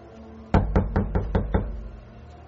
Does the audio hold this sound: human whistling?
no